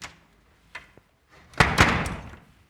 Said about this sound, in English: I'm going to close this door if you don't mind